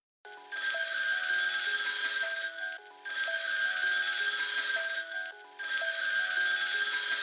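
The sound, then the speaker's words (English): A telephone rings loudly, three long sustained bursts separated by brief pauses, with no voices present. “made another call, but clearly, perhaps, the phone was tapped.”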